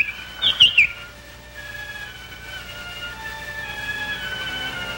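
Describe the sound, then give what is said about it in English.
A small bird in a birdcage chirps in a quick burst of three or four bright tweets near the start, then falls quiet as a faint steady hum and soft background noise continue. “All right, genie disguised as a bird.”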